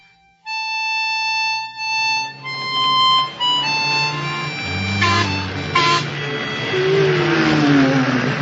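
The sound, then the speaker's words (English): A model train runs along its tracks with a steady mechanical hum and rattle, sustained whistle-like tones on top, two brief clattering bursts midway, and a sliding pitch near the end. “Take her easy through the switches or she'll derail.”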